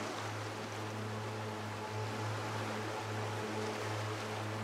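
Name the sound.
ocean waves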